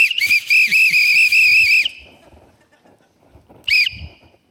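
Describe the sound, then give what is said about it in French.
A police whistle blows a long, shrill, trilling blast, then after a brief pause gives one short, sharp toot. Faint background rustling fills the gap. “Puis la police n'arrête pas de te souffler.”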